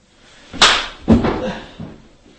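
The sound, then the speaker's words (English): Two hard, sharp slaps land loud, half a second apart, as a man is slapped, followed by a fainter third smack and some rustling movement, with no voices. “Slapped him like tired.”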